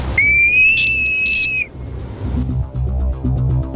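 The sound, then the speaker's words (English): A frog call: a high, steady whistling tone held for about a second and a half, followed by a quick series of sharp clicking pulses over a low, rumbling background. “I'd say that's a beast. You're right, it's a frog.”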